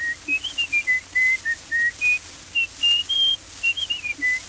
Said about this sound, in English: a tin whistle